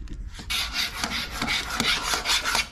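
A key scratches hard across a Dekton artificial stone surface from Spain in a run of harsh, gritty back-and-forth strokes lasting a couple of seconds, with no voices over it.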